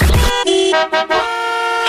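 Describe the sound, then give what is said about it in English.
A short radio traffic-report bumper of loud car horns honking in a quick sequence of three or four blasts, the last one held, with no voices. “It's because it hears the traffic bumper.”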